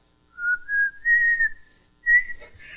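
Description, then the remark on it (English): A person whistles a short, rising tune of a few sustained notes, then pauses and adds a brief higher phrase, clear with no talking. “So they do what? They whistle, right?”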